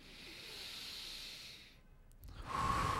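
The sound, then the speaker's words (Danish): A long, deep breath drawn in through the nose during a guided relaxation exercise, a steady airy hiss for nearly two seconds, then a brief pause before a louder, fuller exhale out through the mouth begins. Quiet, with no talking. “Og så tager du en dyb indånding ind gennem næsen.”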